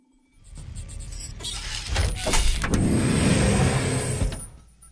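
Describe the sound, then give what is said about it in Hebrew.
A sci-fi door at the Federation center slides open with a steady mechanical whoosh and motor hum that builds over a few seconds, holds at full loudness, then cuts off. No voices. “שלוש שניות לפתיחת דלתות.”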